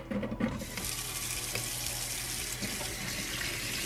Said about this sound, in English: So now we're gonna run it under cold water for 2 minutes, which in my opinion is kind of wasteful of water, but.